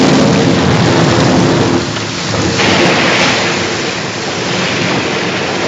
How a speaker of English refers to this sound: As the monster opens his great jaws to swallow them, Pinocchio slithers safely through the gap in the rock, pulling Geppetto behind him, and the huge whale crashes helplessly into the cliff.